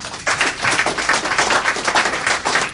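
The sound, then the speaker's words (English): An audience claps steadily to show it is against "NAFTA for Africa", a dense crackle of many hands striking together at a fairly loud, even level with no voices over it. “If you are against NAFTA for Africa, clap.”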